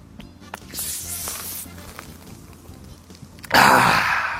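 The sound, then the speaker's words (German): A person takes a quiet slurping sip of beer with soft hissy noise, followed by a loud, breathy exhale at the end. No one speaks. “Probieren wir. Prost.”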